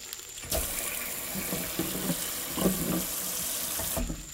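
A faucet turns on and water runs steadily into a sink, with soft splashing and knocking as a water apple is washed under the stream before being eaten, then the flow shuts off.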